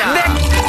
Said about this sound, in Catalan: va, posa una mica de cava i brindem, no?